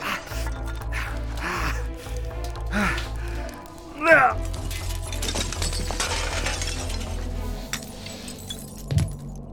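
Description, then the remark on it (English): Broken window glass crunches and clinks as someone clambers through what's left of a window, with a sharp glassy burst near the middle, strained breaths and gasps, all over a steady low droning hum. “I'll just, go through what's left of the... What's left of the window here.”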